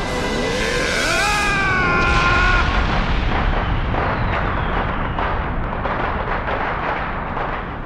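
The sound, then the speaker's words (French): Fireworks from a fireworks tower burst in a dense, continuous barrage, rumbling booms and crackling pops layered together, opening with rising whistles before the explosions fill the scene loudly for several seconds. “Quel spectacle grandiose, jamais vu plus beau feu d'artifice!”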